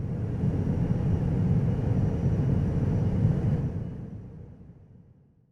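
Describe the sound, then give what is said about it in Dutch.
A big airplane's loud, steady low engine roar rumbles for several seconds, then fades away as it passes. “This plane is big.”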